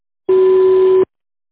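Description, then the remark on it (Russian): A single steady electronic voicemail beep on a phone line, following a recorded message asking the caller to leave a message; a pure mid-pitched tone held for about three-quarters of a second, loud and alone with silence before and after. “Пожалуйста, оставьте сообщение после гудка или перезвоните позже.”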